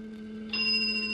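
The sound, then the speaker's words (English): A single bright bell from an instrument, sounding when its process is finished, strikes partway through and rings on with a sustained, high, shimmering tone over a low steady hum. No one speaks. “A moment until the bell sound.”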